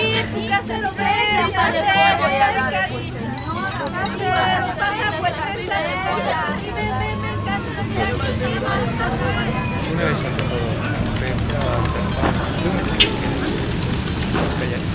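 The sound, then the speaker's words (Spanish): Dense crowd hubbub of a busy street market full of vendors, with stalls laid out on the ground, many overlapping voices blending into a steady, loud babble with no single speaker standing out, holding constant throughout. “Este parece un mar de gente. Todo se confunde en este mundo de sonidos.”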